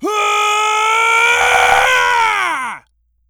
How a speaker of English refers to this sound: And this is me yelling at you even more! Like an anime power-up!